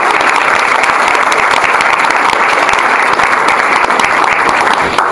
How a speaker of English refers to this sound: We've got Paul Dini here on my right. Let's give a big hand.